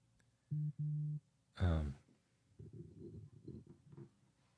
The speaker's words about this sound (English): I keep hearing the hums and the beeps and whatnot.